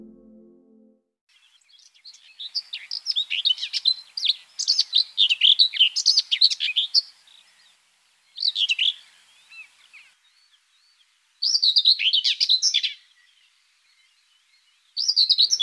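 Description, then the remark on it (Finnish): A common whitethroat, a great-tit-sized, fairly long-tailed bird, sings with no other sounds: a long, scratchy, chattering warble, then three shorter bursts separated by brief pauses. “Pensaskerttu on talitiaisen kokoinen, melko pitkäpyrstöinen lintu.”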